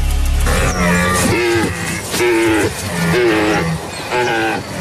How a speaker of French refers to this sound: C'est dans la forêt, 15 secondes. Une vache... Dans la forêt. Le brame de cerf.